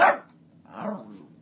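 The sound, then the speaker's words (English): Two sharp barks from a mad female dog, a bright burst at the start followed by a lower, throatier bark with a growling edge, with no talking. “We got a mad dog.”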